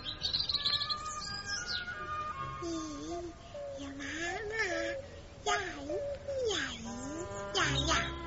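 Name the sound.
small bird chirping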